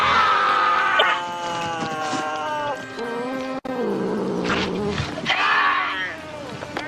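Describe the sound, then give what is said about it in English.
An angry 8-pound domestic shorthair cat yowls and growls loudly and continuously as it struggles to break free while an officer tries to control it, its drawn-out wails rising and falling in pitch with harsh snarling bursts, intense throughout. “Passionate jungle instincts kick in as Pinky tries to break free”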